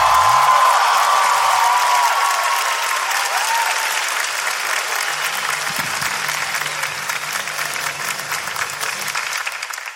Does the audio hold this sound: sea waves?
no